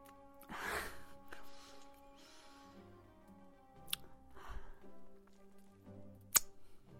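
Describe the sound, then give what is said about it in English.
A quick, breathy little gasp of pain cuts in over soft sustained musical tones, followed later by another faint intake of breath and a few sharp bright ticks. “It's a little gasp of pain there.”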